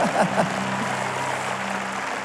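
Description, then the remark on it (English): An audience claps their hands at a Sunday morning church service in a steady, dense wash of applause that holds at an even, fairly loud level throughout, with a few brief vocal sounds near the start. “And if you love Jesus, clap your hands, make a little bit of noise on a Sunday morning.”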